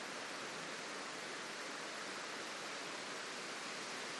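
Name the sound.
rain falling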